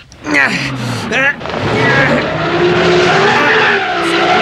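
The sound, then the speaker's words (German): A car engine revs hard in rising bursts as the driver gives it gas, then settles into a loud, steady strain as the wheels spin and churn, stuck in mud in a tropical rainforest, a rough whirring slip that continues to the end. “Die Räder stecken im Schlamm fest.”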